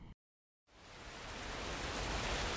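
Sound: heavy rain falling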